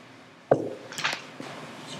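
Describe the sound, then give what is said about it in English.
A sharp, fairly low knock on the bottom of a glass rings briefly, followed by a few lighter, brighter clinks and a soft final tap, with no talking. “When you tap a glass at the bottom, does it make a high or low pitch?”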